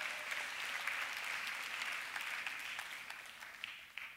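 Steady applause from an audience, a dense patter of many hands clapping at once, holding fairly even for about four seconds before easing slightly toward the end.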